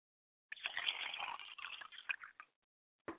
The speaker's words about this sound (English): I pay homage to you, Ori, today by pouring libations to the east. By pouring libations to the west.